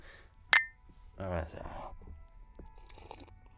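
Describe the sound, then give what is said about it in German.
Glasses clink together once in a toast, a bright ring near the start, followed by a brief murmuring voice and soft, quiet sounds of drinking or handling. “Ich würde sagen, darauf stoßen wir eine Runde an. Prost, Oliver, zu deinem Sponsorenvertrag.”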